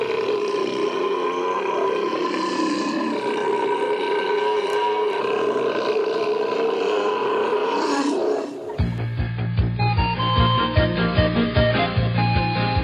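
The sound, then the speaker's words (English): A long, loud, drawn-out belch rumbles on for several seconds with a rough, droning pitch, then cuts off abruptly as music with a steady beat begins. “I have to belch.”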